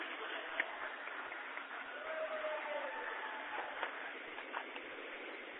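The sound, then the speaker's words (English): A dense, steady wash of crowd noise fills the arena at a basketball game, with scattered sharp claps and shouts rising out of it as the audience applauds the seniors at their final home game, no one speaking clearly over it. “And a big round of applause for the seniors for Nema Central, their final game here at home.”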